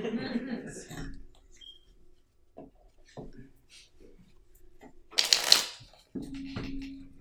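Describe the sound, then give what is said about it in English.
A Golden Universal Tarot deck with gold foil cards is shuffled: scattered soft card clicks and flicks, then a louder, brisk riffle burst, with brief vocal sounds at the start and end. “Not as easy to shuffle as the last one.”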